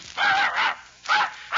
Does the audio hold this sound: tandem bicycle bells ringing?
no